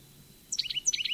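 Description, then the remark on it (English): A bird, the Upper Gully bird, calls in two quick bursts of high, warbling chirps with rapid up-and-down notes, moderately loud over a quiet low hum. “Upper Gully Bird.”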